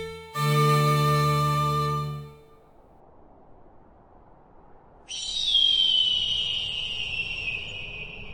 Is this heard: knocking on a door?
no